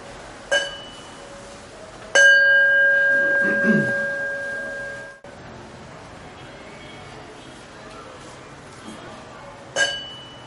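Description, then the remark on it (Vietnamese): A bell is struck and rings with a clear, sustained tone that slowly fades, preceded and followed by lighter metallic taps; a faint low murmur sits underneath. “Tất cả nghe tôi thật thì chuông, quý vị nhắm mắt lại, cái quán chiếu những gì mà tôi vừa nói nó đúng hay sai như thế nào.”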